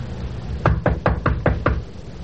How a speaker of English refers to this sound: Okay. Knock. Go ahead, knock. All right. When they ask who it is, you'll answer them. Other end, Sergeant? I hope so. Knock again.